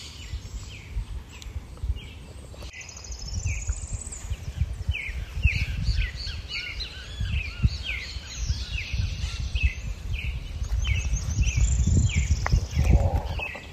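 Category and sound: bird, mixed birdsong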